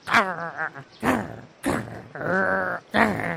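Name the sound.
small dog growling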